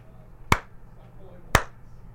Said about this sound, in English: I can only imagine that clap is going to just pop out on the radio.